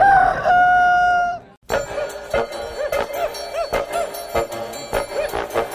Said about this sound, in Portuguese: Canta Galo.